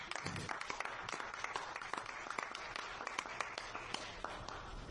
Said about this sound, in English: Tremendous. Tremendous. Can we applaud them all? Yes.